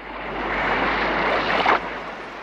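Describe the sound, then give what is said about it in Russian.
Steady rushing wash of slightly rough sea surf, moderately loud, with a brief swell of a breaking wave near the end; no voices, just continuous rough water noise. “Вот пошел он к синему морю, видит, море слегка разыгралось.”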